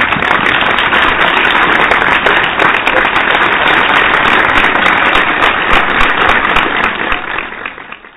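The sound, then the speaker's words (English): A crowd breaks into steady, loud applause to welcome and thank their president before she comes on, a dense crackle of many hands clapping at once that holds strong for several seconds before fading out at the end. “So can we just welcome and thank our president by giving her an applause before we bring her on,”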